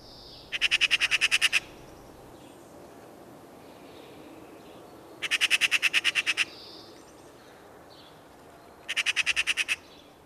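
Magpie calls: three bursts of rapid, harsh rattling chatter, each about a second long, separated by several seconds of quiet background hiss, with no one speaking.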